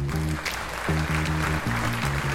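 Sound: applause sound effect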